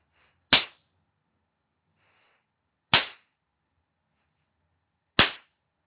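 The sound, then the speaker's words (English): Three sharp spanking slaps land at a slow, even pace, about two seconds apart, each a crisp smack with a quick decay and silence between them. No one speaks. “You start by spanking me slow, slow, deliberate slaps.”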